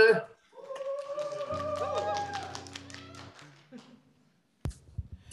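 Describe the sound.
An audience breaks into steady applause, many hands clapping at once over a sustained humming tone and some voices. The clapping thins and fades, then a few sharp knocks follow.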